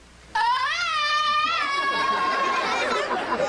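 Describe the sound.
A voice lets out a loud, sustained Tarzan-style yell, its pitch warbling and wavering for about three seconds before trailing off into a rougher, strained finish.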